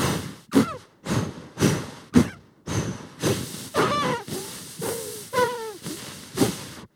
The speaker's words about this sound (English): I'm actually closing my jaw and pushing air out my mouth while I'm inhaling. It's circular breathing.